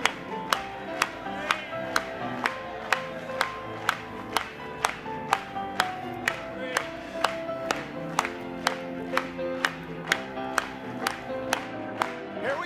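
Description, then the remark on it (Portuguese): An audience claps in unison, sharp, steady beats roughly twice per second, ringing out over sustained music and singing throughout. “Vamos bater palmas mais uma vez.”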